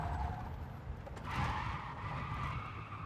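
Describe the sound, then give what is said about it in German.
A car skids around a corner during a pursuit, tires squealing in a sustained screech over a low engine rumble, loud, with the squeal rising sharply partway through. “nachdem die anderen beiden Geißeln mit Helena um die Ecke gefahren kommen”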